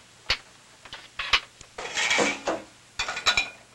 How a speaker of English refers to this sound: Leaning on the breakfast table, the boy watches his father load the dishwasher.